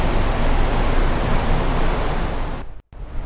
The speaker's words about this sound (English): The water being moved. What does it sound like? A waterfall.